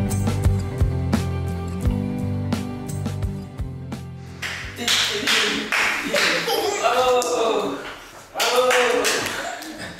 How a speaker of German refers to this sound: Schon kleine Babys lernen das Klatschen und freuen sich, wenn sie es schaffen. Das Klatschen ist einer der einfachsten Laute, die wir mit unserem Körper machen können.